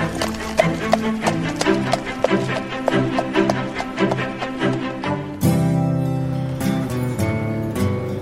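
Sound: horse hooves galloping away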